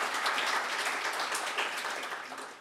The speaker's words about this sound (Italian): Quindi io farei un grosso applauso a queste persone che non hanno letto, ma l'hanno vissuto in prima persona.